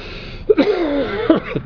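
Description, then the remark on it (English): A voice imitates a fit of coughing: a few short, rough hacking bursts linked by a drawn-out, wavering voiced groan, moderately loud and heard alone. “I started to cough.”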